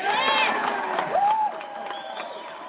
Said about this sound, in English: Give this woman applause, my babies, my loving children, my people.